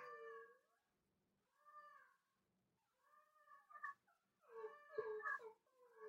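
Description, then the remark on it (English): A dog named Bingo howls in long, wavering bursts, singing along, while another dog named Kobe whimpers and cries in high, strained tones from another room, the two overlapping several times over a few seconds with no talking. “Oh, so Kobe is crying from the other room and Bingo is howling.”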